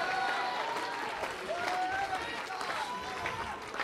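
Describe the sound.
A church audience clapping their hands to praise the Lord, a dense, steady wash of claps lasting throughout, with raised voices and a few sustained tones mixed in over the clapping.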